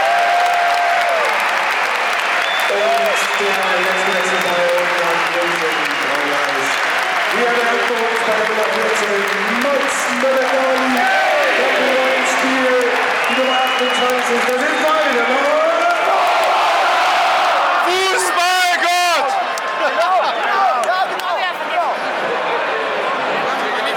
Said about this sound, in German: Das ist dein Applaus, Mats.